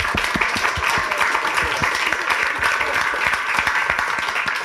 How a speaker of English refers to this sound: Round of applause for